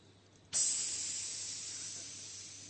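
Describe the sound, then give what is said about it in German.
A steady steam hiss bursts on suddenly from a pressure valve after a brief quiet moment, then holds loud and constant, fading only slightly over a few seconds. “Manchmal entweicht der Dampf ganz sanft, man hört es kaum.”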